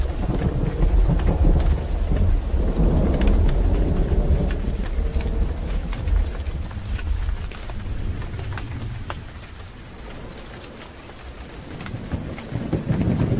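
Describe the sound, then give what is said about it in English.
Steady mid-afternoon, late-summer rain shower patters down with a broad hiss, while deep rumbles of thunder roll underneath, strongest early and slowly easing as the shower continues. No voices. “It had been a typical mid-afternoon, late summer shower that often comes in these parts.”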